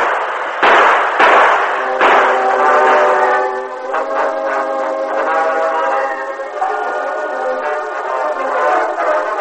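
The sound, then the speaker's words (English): A train pulls to a stop: a few sharp metallic clanks at the start, then a loud, sustained, wavering squeal of brakes over a steady rumble, with no voices. “See? Stopping now. Come along, men.”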